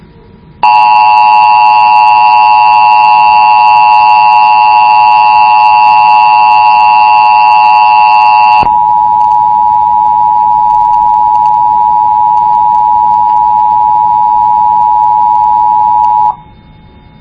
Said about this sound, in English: But I'm sending my header now, and my box should have taken action from it. And we're sending alert tones now.